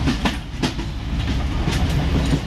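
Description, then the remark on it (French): The Citarail Abidjan-Ouaga passenger train, special train number 211, departing on rails: a steady, heavy low rumble punctuated by a few irregular clacks of wheels passing over rail joints, with no voices. “Le train Abidjan-Ouaga repart, c'est l'heure du repas.”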